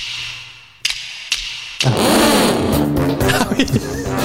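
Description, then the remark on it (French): A few sharp clicks, then a voice in a studio launches into a loud, sputtering motorcycle imitation, revving with rising and falling buzzy pitch for a couple of seconds. “Qui c'est qui fait de la moto dans le studio ?”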